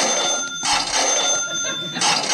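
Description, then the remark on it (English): A bell rings loudly and continuously, a rapid metallic trill sustained for a couple of seconds, rung by a quiz contestant to answer a question, with no voices over it. “Ring your bell.”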